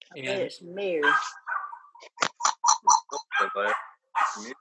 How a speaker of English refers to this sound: I don't know whose dog's barking there.